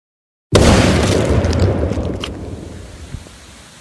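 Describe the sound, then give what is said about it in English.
After a moment of silence, one massive explosion blasting a 15-yard gap in a dam erupts with a sudden deep boom, then a heavy low rumble slowly fades over several seconds, with scattered crackles through the tail. No one speaks. “Mud, sticks, and water were raining down all around us, and the sound of the water rushing through that 15-yard gap in the dam was louder than the explosion.”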